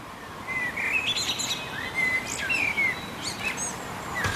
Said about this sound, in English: I'm sure there's something special about listening to the sound of the birds at home. I've been listening myself. Is that a blackbird I heard?